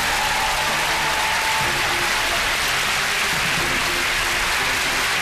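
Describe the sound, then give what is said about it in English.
The studio audience of the TV game show The Cube applauds a departing contestant steadily, a dense wash of clapping that holds at an even, fairly loud level for the whole stretch with no voices over it. “Round of applause.”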